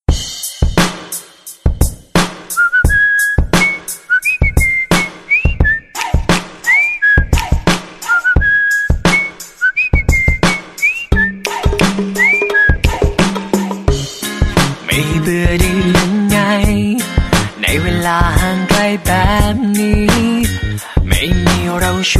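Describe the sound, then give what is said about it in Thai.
A pop song played on a radio programme starts with a whistled melody over a steady, punchy beat, then swells into a fuller, louder arrangement that plays continuously. “เชิญรับฟังบทเพลงจากทางรายการกันก่อนเลยก็แล้วกันจบแล้วเดี๋ยวมาพบกันต่อในช่วงหน้าครับ”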